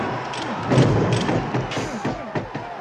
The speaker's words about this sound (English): Jake LaMotta is about to get knocked out by Sugar Ray Robinson, and there's just a shot of Sugar Ray standing there, and it gets very quiet. There's sort of a rumbling, hissing sound. And then he just unleashes this barrage of punches.